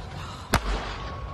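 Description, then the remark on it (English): A single sharp, cracking gunshot, fired in a video by a man as his truck is being taken, bursts out over a steady background hiss, followed by a brief low rumble that fades back into the noise. “The guy just gets into it, so he starts firing shots.”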